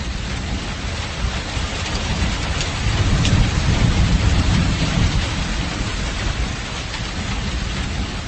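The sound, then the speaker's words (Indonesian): Steady rain pours down outside an office window at night, with a deep low rumble beneath it, swelling a little in the middle before easing off to a softer, even patter. No voices are heard. “Kulihat keluar jendela, hujan sudah mulai mereda.”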